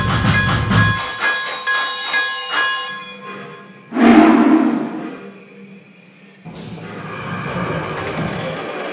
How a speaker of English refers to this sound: Francisco on track number 2. Train number 98, the morning daylight.